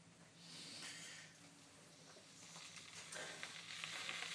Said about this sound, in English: Where's the cable? Let's check it's actually plugged in. That would be the next thing. Yes, it is plugged in. Let's check that one there then. And we want it to actually boil. So here we go. That kettle's there.